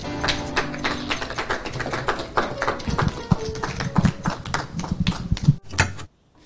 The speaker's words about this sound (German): Hier ist Chris Morenz, Applaus.